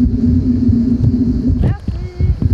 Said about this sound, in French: Bon, il commence à y avoir de plus en plus de voitures là. C'est bientôt 17h. Qu'est-ce que vous en pensez là, vous, de toutes ces voitures qui descendent après le boulot?